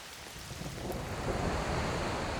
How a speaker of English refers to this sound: A thunderstorm in the Amazon rainforest in Brazil.